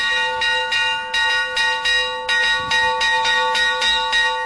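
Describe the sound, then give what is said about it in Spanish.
A church bell in the Señorío de Molina, Molina de Aragón, rings the traditional 'llamada a concejo' (call to council) toll: a steady, rapid series of strikes, each stroke ringing into the next with sustained metallic overtones, loud with no voices. “El campanero es Diego Sanz y, por ejemplo, así toca él la llamada a concejo.”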